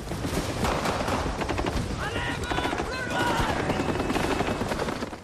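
A white helicopter roars as it lands, its heavy rotor noise mixed with sustained bursts of gunfire and scattered shouting voices throughout the loud, chaotic scene.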